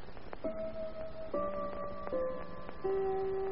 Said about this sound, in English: The clock on the mantelpiece in the study of Monsieur Armand Dormier chimes a quarter hour.